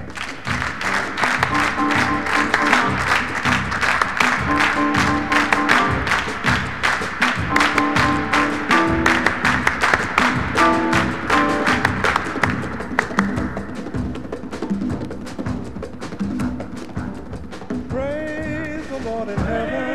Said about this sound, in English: Clap your hands.